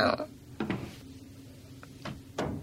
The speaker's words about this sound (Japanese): 扉閉めちゃったね。